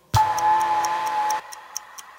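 A ticking bomb counts down in steady, evenly spaced clicks over a sustained electronic hum; the hum cuts out partway through, leaving the ticks to continue alone, crisp and close.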